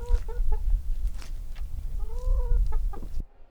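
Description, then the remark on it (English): Several chickens cluck in short, choppy bursts, with one drawn-out warbling call midway, over a low rumbling background, fairly loud; the chickens are eating recovered food waste. “Even chickens are eating some of the highest quality food waste.”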